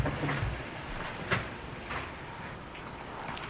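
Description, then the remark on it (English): A woman in a nightgown and sweater pulls a door shut behind her at the doorway as she leaves, a brief latch click and soft thud against a steady hiss of background noise, followed by a fainter knock a moment later. “At the doorway, she pulls on a scruffy gray sweater over her nightgown and pulls the door shut behind her.”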